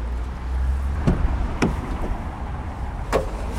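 Inside a family car, a low steady rumble carries three sharp knocks and clunks, like doors and fittings being shut as people settle in; no one speaks.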